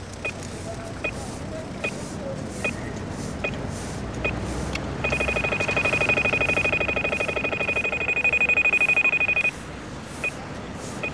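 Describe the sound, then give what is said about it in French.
An audible pedestrian crossing signal in Brussels ticks slowly and steadily, then switches to a loud, rapid electronic trill, meaning pedestrians may cross, for several seconds before returning to ticking, over a constant rumble of street traffic. “Quand c'est trrrr, voilà, ça, on peut traverser.”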